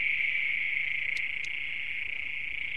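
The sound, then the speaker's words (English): A dense night chorus of frogs trilling in one steady, high-pitched wash under a starry sky, heard from cold water at about 10 to 15 degrees, continuous and unbroken, with a couple of brief sharper calls poking out near the middle. No voices. “But yeah, so I assume those are frogs. They're riveting away.”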